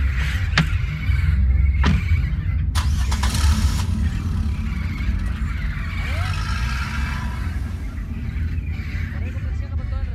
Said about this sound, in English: As the truck began to move, I looked up and saw my parents chasing overhead, calling to me. But as the truck sped off into the mountains, my parents, they couldn't keep up.